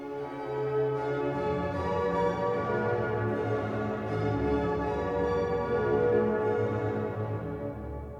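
Carillon bells chime continuously, their layered ringing tones overlapping and sustaining into a dense, resonant wash at steady volume throughout, with no voices present.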